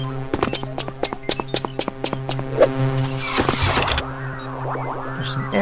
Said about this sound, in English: Now that door sound signifies a transition. That's just a sound source.